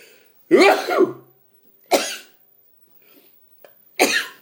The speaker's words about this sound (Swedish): Jag nyser i princip aldrig hemma annars. Jag nyser bara när jag kör de här matsprången.